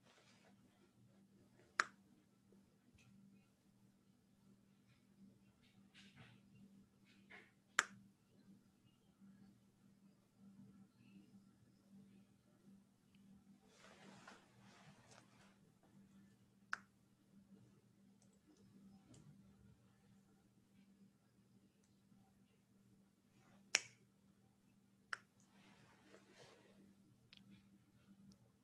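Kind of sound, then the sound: human body sound, finger snapping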